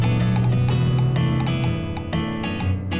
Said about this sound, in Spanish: ¡Uy! ¡Nunca pensé ver a Lucy cabalgando en plena tormenta!